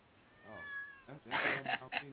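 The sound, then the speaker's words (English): A cat gives a drawn-out, wavering meow, then a few louder, rougher meows in quick succession. “Is the kitty there?”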